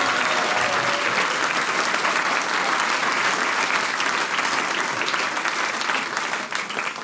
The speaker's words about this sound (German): Jawohl, ein Applaus für die Steirermusi.